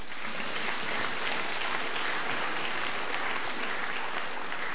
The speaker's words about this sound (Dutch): Ja, dat weet je nooit helemaal als gastpredikant hoe dat met applaus en zo zit. Maar mag best nog een keer.